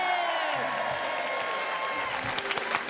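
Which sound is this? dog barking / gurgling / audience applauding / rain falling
audience applauding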